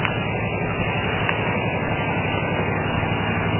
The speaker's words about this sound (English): Well, this is a land of extremely loud vehicles early in the morning stuff. Anyway, diesel truck here.